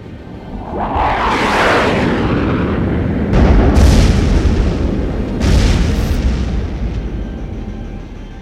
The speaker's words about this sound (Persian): نیروهای نفوذی این خبر رو به نیروهای بعثی عراق رسوندن. اونا هم با هواپیماهاشون منطقه دزدی رو بمبارون کردن.